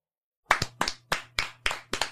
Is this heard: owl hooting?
no